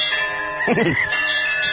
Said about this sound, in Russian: Маэстро, сегодня воскресенье. Будьте добры, колокольный звон.